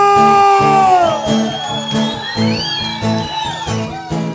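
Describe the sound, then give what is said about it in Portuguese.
A live audience shouts, whoops and cheers loudly and continuously, with rising and falling voices over a steady, thumping rhythmic beat. “gostou, dá um grito!”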